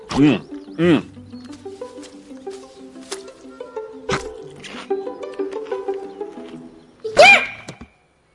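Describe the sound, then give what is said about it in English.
A panda gives a few short, squeaky sneezes at intervals, with the final one loudest and most voiced, over a steady low background hum. “Dude, that was the cutest sneeze ever.”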